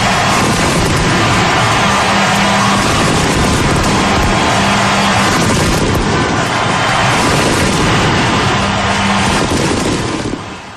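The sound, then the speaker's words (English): A loud, continuous barrage of fireworks exploding to celebrate the Phillies taking game four of the 2008 World Series, with booms and crackling bursts piling on top of each other for the whole stretch, dense with no pause and no talking. “Had to leave the fireworks in again today.”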